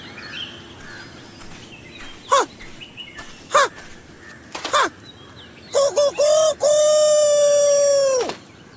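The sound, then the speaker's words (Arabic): A rooster crows, starting with a few short, sharp calls spaced about a second apart, then a loud, drawn-out cock-a-doodle-doo lasting several seconds. “كفاك إزعاجا أيها الديك، ألا يمكننا أن نرتاح قليلا في هذا المكان؟”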